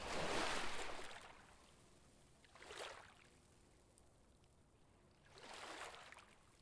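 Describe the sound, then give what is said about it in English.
Gentle saltwater waves about 3 inches tall lap against the shore in soft, periodic washes, three swells rising and receding over a low steady background of water, moderately quiet, with the tide about 2 feet from high tide. “When I'm here on the salt water and these waves are lapping, this is home.”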